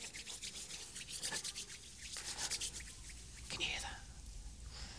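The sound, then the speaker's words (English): Soft, continuous rubbing and swishing from a group of people rubbing their hands together to represent moving water, a dense papery friction noise with rhythmic bursts, with faint whispery murmurs mixed in. “And you're going to rub them together.”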